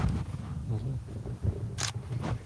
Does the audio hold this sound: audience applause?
no